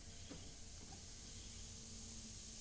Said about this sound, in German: Da war so ein Zischen, das klang echt nicht gut. Das Zischen ist in deinem Kopf, du Idiot. Nein, nein, wirklich. Hört doch mal hin.